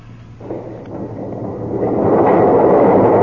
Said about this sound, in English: The doors are opening.